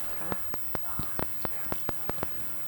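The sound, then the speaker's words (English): Rain that has just started falls with a soft, steady hiss, punctuated by distinct drops tapping at an irregular pace, several per second, fairly quiet. “We hadn't gone half a block when it... started to rain.”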